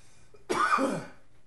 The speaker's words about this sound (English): Got the coughs.